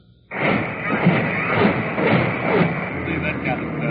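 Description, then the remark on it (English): Naval big guns of the Missouri and other ships of the UN armada bombard the hills above a beach in Korea in a sustained barrage, a dense, continuous roar that starts abruptly and pulses with repeated heavy thuds every half second or so, loud throughout. “As the Missouri pounded away at the hills above the beach, other big guns of the UN armada joined the barrage”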